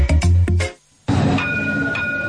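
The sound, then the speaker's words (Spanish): A few loud, punchy tones end abruptly, then after a brief silence a tram rolls along with a steady rumble and a high, thin electric whine, continuous. “Minutitos para llegar a las 12 del mediodía, nos vamos a subir al tranvía y nos vamos a quedar en la calle Ángel Guimerá, en Atenea Centro Láser”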